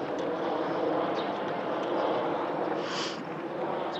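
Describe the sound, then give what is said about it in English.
A loud, steady roar of an airplane passing overhead in Houston fills the whole stretch, a broad rumbling drone that stays constant, with no voices. “And now you're probably realizing how loud are the planes that are flying through Houston, and how much of a quiet time do we really have living in the city.”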